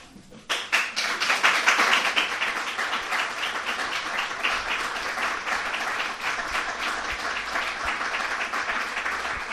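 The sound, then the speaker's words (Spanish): Sustained applause from members of a political group in a plenary hall, dense rapid clapping that starts abruptly, swells loudest early on, then continues steadily for several seconds with no voices. “Con esos aplausos por parte de los miembros de su grupo que estaban en este salón de plenos”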